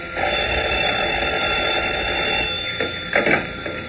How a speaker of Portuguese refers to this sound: Um momentinho enquanto eu atendo o telefone.